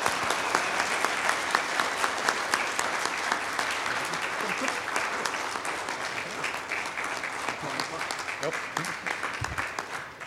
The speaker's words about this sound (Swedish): Nu finns du med som frivillig i höst, men vi vill även från styrelsen och föreningen säga ett tack så här. Så vi ger en stor applåd tycker jag.